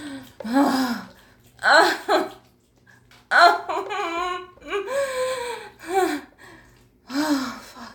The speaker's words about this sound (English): Just like now. Panting and shaking, writhing in my car in the fucking parking lot.